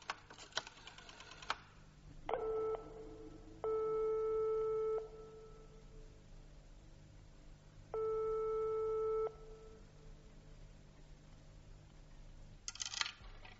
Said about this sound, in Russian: Потом он опять бросил монетку и набрал другой номер.